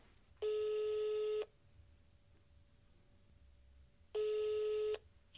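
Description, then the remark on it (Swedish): A telephone ringback tone from an outgoing phone call: two steady, buzzy, mid-pitched tones, each lasting about a second, separated by a long quiet pause, heard alone with no talking. “Så jag tänkte jag skulle ringa honom och så ska han få hjälpa till att besvara den här frågan.”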